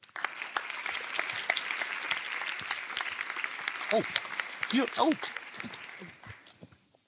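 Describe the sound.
Steady applause from an evening-talk audience welcoming a philosopher at the start of the event: a dense patter of many hands clapping for several seconds before tapering off, with a few cheers or voices rising briefly partway through.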